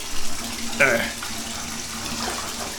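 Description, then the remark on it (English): Steady water runs from a tap into a cold bathtub, a constant hiss with a brief higher splash or squeak near the start and faint murmuring underneath. “Okay, so as I sit here in this cold bathtub, I just accidentally dumped one of my boats into the water.”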